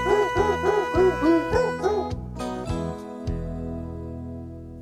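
A quick run of pitched, rhythmic dog barks, evenly spaced like notes of a tune, over a steady musical backing, followed by a sustained instrumental tone.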